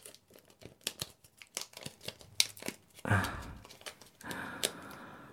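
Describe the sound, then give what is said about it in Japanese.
Adhesive tape used to bind someone peels away in two drawn-out ripping pulls, after a run of small clicks and crinkles; no one speaks. “うん、それじゃ拘束してるテープ剥がすよ。”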